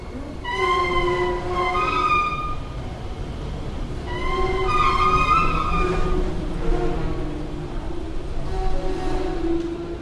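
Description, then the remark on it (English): Subway escalators in Washington, D.C. groan and squeal in long, wavering, whale-like tones that overlap in several drawn-out bursts, riding over a steady mechanical rumble with no one talking. “They can sound like any combination of a pod of sick whales or an orchestra warming up.”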